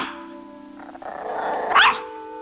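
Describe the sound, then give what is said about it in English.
A toy poodle eyeing a man growls low and steady for about two seconds, then lets out a single sharp, higher bark near the end, fairly clear, with no one talking. “The toy poodle eyes him.”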